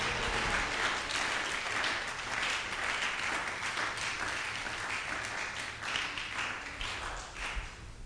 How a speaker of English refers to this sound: Oh, you should be clapping and saying amen to that.